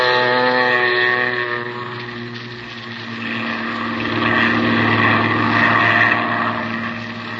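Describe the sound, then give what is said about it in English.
A steady droning propeller engine roars loudly, its even buzzing tones swelling slightly as a seaplane skims across a bay headed toward the Gulf, with no voices. “Then you wade out to the plane. And a few minutes later, you're skimming across the bay, headed toward the Gulf.”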